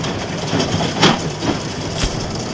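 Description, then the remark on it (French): Steady mechanical rumble from a hay baler at work, with the piston's rhythmic thumps and clacks roughly every half second while the knotters grab the twine to tie the bale, fairly loud, with no one talking. “Et quand les aiguilles sont en haut, on appelle des noueurs qui chopent la ficelle pour nouer la botte.”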